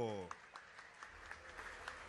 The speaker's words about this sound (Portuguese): salva de palmas para